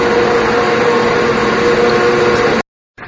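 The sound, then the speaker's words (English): Cable car winding machinery drones loudly and steadily inside the Cable Car Museum, where four continuous-loop cables run, one for each of four lines: a dense mechanical roar with a low hum running through it. It cuts off abruptly near the end, then starts again. “The admission is free for the Cable Car Museum, and here we go inside. So it's going to be a little too noisy in here to talk”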